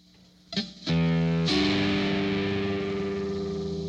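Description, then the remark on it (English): A keyboard synth instrument preset with heavy distortion: a couple of quick struck notes, then a thick, gritty chord that sustains loudly and slowly fades, with no voices. “I really don't like the distortion, though.”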